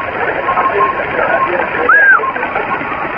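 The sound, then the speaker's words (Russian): Steady radio static and band noise hiss on a radio receiver during an on-air round table, with a faint carrier tone and a brief rising-falling whistle of interference near the middle, fairly loud and continuous. “Еле-еле, как говорится, у меня тут на уровне помех на приеме.”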